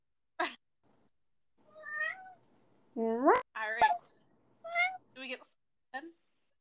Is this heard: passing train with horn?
no